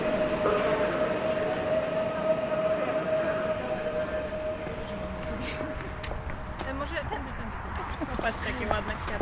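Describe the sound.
The Intercity train Słowacki, from Białystok to Wrocław via Łódź, pulling into a station in Łódź at track three by platform two, its low steady rumble joined by a long, even, high-pitched squeal that holds for several seconds before fading out, with indistinct voices underneath.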